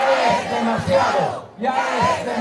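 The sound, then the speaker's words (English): A large crowd at a packed campaign rally in the eastern Bolivian city of Santa Cruz chants in unison in Spanish, "Enough already," led by opposition candidate Carlos Mesa. The chant is loud and rhythmic, with a brief pause mid-phrase before the voices surge again in the same cadence. “The opposition candidate then leads the crowd in a chant.”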